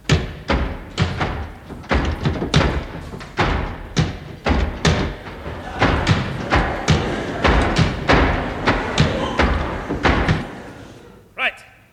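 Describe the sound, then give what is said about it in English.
A rapid series of heavy thuds and slams, like doors being shut one after another, loud over a low murmur of voices, ending in a brief lull and one last bang. “Now, gentlemen, could we close the doors, please?”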